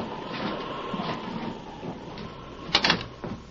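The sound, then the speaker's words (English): An unlocked door is opened near the end, a short cluster of latch clicks and a scraping swing, fairly loud over a steady rumbling wash of background noise. No one speaks. “wait. The door's unlocked. Come on.”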